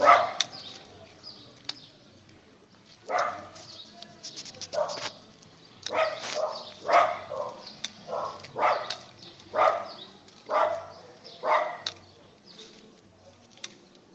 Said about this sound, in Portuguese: Esses cachorros são bravos, gente, mas dá para continuar o exercício.